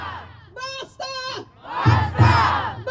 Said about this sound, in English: Basta means enough. The Spanish chants underscored by Japanese taiko drums illustrate the theme of the day.